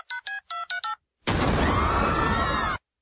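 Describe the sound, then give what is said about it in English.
Five quick electronic keypad beeps of a telephone being dialed, evenly paced, followed by a loud burst of harsh, crackling noise lasting about a second and a half from the broken phone. “Maybe I dialed wrong.”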